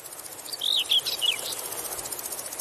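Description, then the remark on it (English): A conehead bush cricket sings a steady, high-pitched buzzing trill throughout, fairly faint and continuous, while a few brief bird-like chirps break in near the start. “And if you've let part of your lawn turn into a hay meadow, then there's a fair chance that coneheads will colonise that.”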